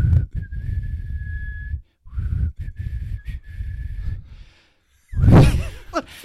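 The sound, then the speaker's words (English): Someone whistles a simple tune in two sustained phrases separated by a short pause, followed by a loud breathy exhale or gasp. “What's the one he whistles on? Did he whistle on all of them?”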